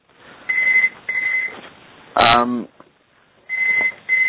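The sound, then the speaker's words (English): A telephone rings nearby in short, paired bursts of a steady electronic tone, repeating after a pause, with a brief burst of voice between the rings. “Oh, I've got another telephone ringing right beside me.”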